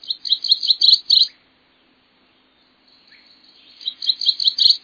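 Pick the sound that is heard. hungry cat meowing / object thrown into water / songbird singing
songbird singing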